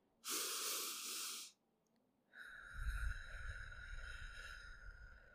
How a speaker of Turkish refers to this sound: O yüzden şimdi derin bir nefes alın.